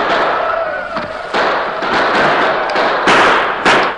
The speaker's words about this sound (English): Bullets came through the open windows on all sides. The darkness made accurate gunfire difficult, but several of the Indians were hit and sent sprawling to the ground.